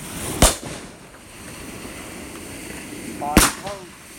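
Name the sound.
fireworks going off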